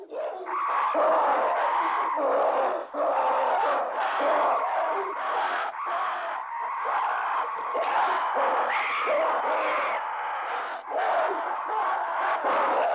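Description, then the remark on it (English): A chaotic chorus of prehistoric apes screeching, hooting and shrieking over one another as they fight over a water hole in Stanley Kubrick's film 2001: A Space Odyssey, loud and continuous with no pauses, rising into harsh cries and barks for the full stretch. “That's the lovely sound of the screeching prehistoric apes slash humans from Stanley Kubrick's 2001 A Space Odyssey.”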